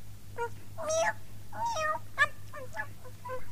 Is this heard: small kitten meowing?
yes